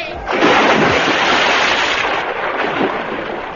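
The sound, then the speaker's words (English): A loud, booming burst of gunfire with a harsh crackling roar that rumbles on for several seconds before slowly easing off, dominant with no voices; a gun is fired to shoot a fire. “I aim to shoot the fire to kill it.”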